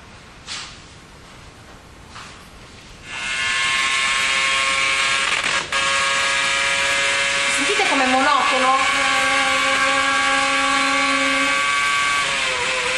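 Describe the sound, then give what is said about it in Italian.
After a few quiet seconds, a Ferrari Formula 1 car engine roars, heard from the onboard camera during a Grand Prix: a loud, steady, high-pitched whine whose pitch dips and climbs briefly as it shifts, then holds. “Primo è questo, che è la camera on board sulla macchina di Alonso.”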